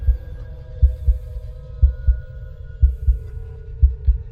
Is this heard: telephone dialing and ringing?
no